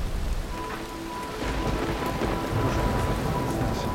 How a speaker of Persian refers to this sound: میگیریم خانم بارونو چیکار کنید؟ کارش نمیشه کرد. مجبوریم بگیریم.